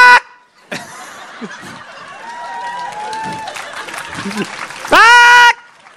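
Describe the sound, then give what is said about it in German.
A person imitates a bird's mating cry with a loud, harsh, rising squawk near the end, preceded by a noisy, crowd-like stretch with faint whistly tones. “Darf ich den Brunftschrei des Vogels nachmachen?”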